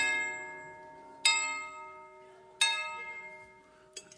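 A doorbell at a front door chimes with ringing, bell-like tones, struck again at steady intervals about every second and a half, each note lingering and fading. Nobody speaks.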